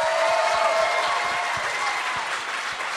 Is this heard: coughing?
no